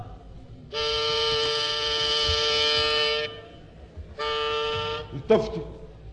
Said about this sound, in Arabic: التفتي. يلا صاحب الزمور. التفتي. التفتي.